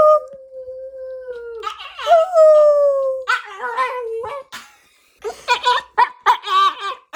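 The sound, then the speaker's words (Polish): A dog howls in long, wavering, sliding tones, then answers high-pitched vocal sounds made by a parent and young son with a series of shorter howls and yelps, fairly loud, with a giggle mixed in. “Sami możecie tak spróbować pogadać z waszymi psami. O, tutaj próbujemy z moim synkiem pogadać z Jackiem.”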